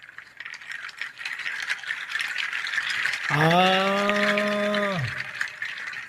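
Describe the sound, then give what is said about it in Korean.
A steady, hissing patter of tiny rattling grains from an instrument imitating flowing water runs throughout, played as an ASMR demonstration, joined midway by a person's sustained, drawn-out vocal sigh. “아, 그 물소리구나.”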